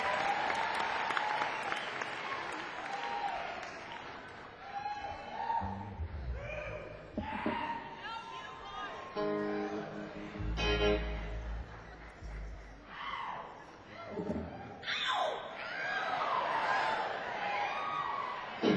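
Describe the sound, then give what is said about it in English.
A crowd applauds steadily with scattered cheers and whoops rising above the clapping, a continuous loud wash of hands that swells and dips but never stops. “A rocking crowd you are.”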